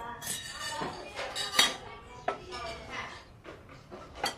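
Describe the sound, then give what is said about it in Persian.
Metal spoons and forks clink and clatter repeatedly as they are being cleaned, sharp bright taps scattered irregularly over a soft background murmur. “تو قاشق چنگا تمیز میکنی یا ناخونک میزنی؟”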